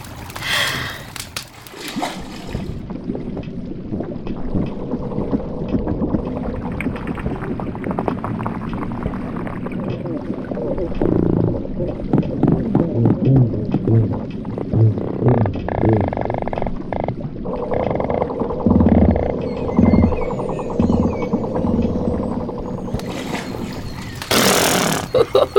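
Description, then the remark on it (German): Muffled underwater sound of a stream, a steady low rolling and trickling of pebbles and water that runs continuously, with brighter, sharper bursts briefly at the very start and end. “Das kullert und rieselt. Und ich höre gar nichts mehr vom Wind in den Bäumen.”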